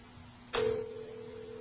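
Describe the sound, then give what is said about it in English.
A click is followed by a steady, clear electronic tone, like a phone ringing out on the line. It holds unbroken to the end over faint background hiss, with no talking. “So let's see if we can get her on the phone.”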